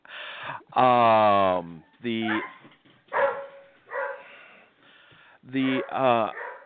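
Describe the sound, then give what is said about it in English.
A dog, reacting to the phrase "master race" being spoken on a show, lets out a string of loud, uneven barks broken up by drawn-out, high-pitched whines and whimpers, with short pauses between the bursts. “Our dog apparently reacts to the phrase master race.”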